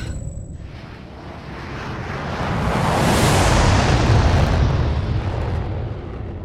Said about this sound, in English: Dalek assault squad destroyed by rocket engine blast.